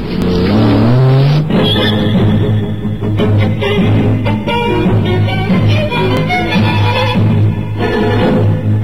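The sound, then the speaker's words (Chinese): A car engine revs up with a rising whine in the first second or so, then roars on steadily and loudly, as a car speeds off hard with the throttle pressed down to chase another car. “巴斯店毫不迟疑地跳上汽车，加大油门紧追哈格纳。”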